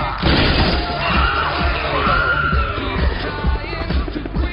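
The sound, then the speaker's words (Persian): Gunshots inside a bank during an armed robbery with hostages, with heavy crashing impacts in a dense, chaotic din, repeated thuds and bangs layered over a constant rumble and faint, indistinct voices. “از داخل بانک صدای شلیک گلوله شنیده شد.”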